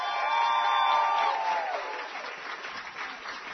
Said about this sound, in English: And challengers, one more time, I know I won't have any problem getting you to do this. Give yourselves another big round of applause.